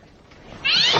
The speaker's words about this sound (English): Jeez! It was just a cat.